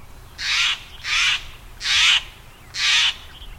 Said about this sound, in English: The alarm call of the Steller's Jay helps protect not only the jay and its kin, but all those smaller birds, too.